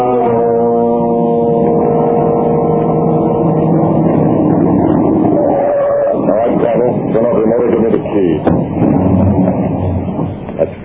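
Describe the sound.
The engine of a car driving behind another car drones steadily with a low, humming tone that holds loud throughout, while muffled voices break in over it during the second half.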